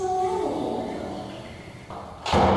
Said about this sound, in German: Geht dann die Tür zu und dann die Katze fängt dann an.